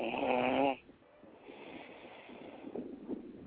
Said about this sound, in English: Who the fuck is that snoring like that?